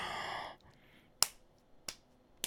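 Three sharp, crisp slaps of a penis against someone's buttocks land at a steady, unhurried pace, each a quick bright smack. A short breathy vocal sound comes before them, and the rest is near silence.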